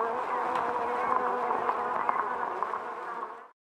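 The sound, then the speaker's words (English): A dense, continuous buzzing of many wasps swarming from a nest in a tree broken open by bullets, a steady droning hum that fills the whole stretch before cutting off abruptly near the end. “It was your wasps that did that.”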